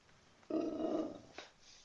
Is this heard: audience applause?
no